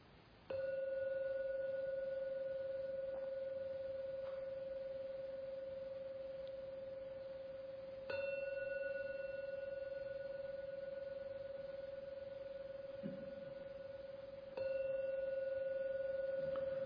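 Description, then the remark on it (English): A gong is struck three times, several seconds apart, to mark the end of a meditation. Each stroke rings out with a loud, steady, humming tone that lingers and overlaps the next. There is no talking. “In a moment or two I'll ring the gong 3 times.”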